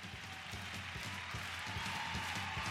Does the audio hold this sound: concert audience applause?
yes